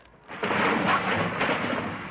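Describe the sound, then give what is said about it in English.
A loud, sustained sound-effect crash of junk tumbling out of Fibber's closet as the door is opened: a sudden burst of clattering, rumbling noise that rolls on for about two seconds with no voices. “When Fibber opens up his closet door, look out!”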